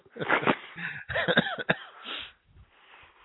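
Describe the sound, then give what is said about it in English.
A fairly loud burst of several rough coughs in quick succession, with throaty, voiced catches between them, then quieter breathy sounds trailing off. “See, so you just made me cough down there.”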